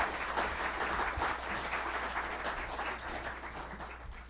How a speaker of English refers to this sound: So let's give a round of applause and a warm welcome to Rabbi Kirk Glebe.